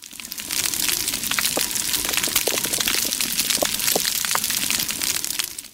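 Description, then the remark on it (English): Dense, steady underwater crackling from a coral reef, a constant fizz of tiny sharp clicks and pops with a few louder snaps scattered throughout, with no voices. “We're back underwater again, of all things. Oh. Is that... coral growing. That counts. It's coral reef.”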